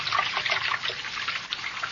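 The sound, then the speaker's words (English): Water flows steadily with a bubbling, gurgling rush, fairly loud, holding an even level for the whole stretch with no voices over it. “Water over my head. Filthy water. Pulling me under.”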